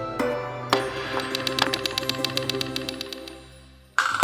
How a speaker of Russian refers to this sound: На плоской стороне выпиливали определенное углубление. При постукивании по дереву это позволяло получить звук нужной высоты. Стучали, играли деревянной колотушкой-молоточком, либо ложками.